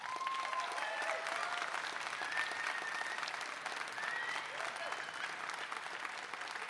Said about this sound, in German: Jetzt bitte euer Applaus